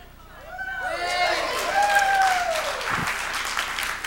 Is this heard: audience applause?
yes